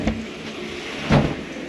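A revolving door in a hotel turns with a low mechanical rumble as someone passes through, marked by a soft thud at the start and a fuller bump about a second later, moderately loud.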